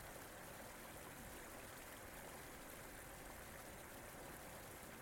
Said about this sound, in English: we're going to let the sight and the sound of this river mingle with these thoughts from Psalm 42